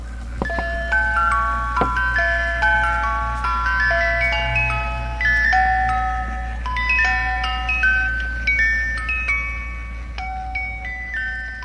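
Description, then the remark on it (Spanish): A music box plays a delicate tinkling melody, bright plucked notes from the tines of its metal comb, whose lengths set each pitch from low to high, ringing out one after another at a steady, gentle pace over a faint low hum. “Así, el artilugio mecánico reproducirá melodías con un timbre muy característico.”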